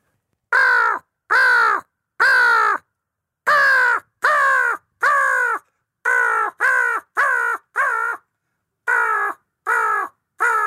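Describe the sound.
An imitated crow call: loud, harsh caws in quick bursts of three or four, about a dozen in all, with short pauses between groups and no talking.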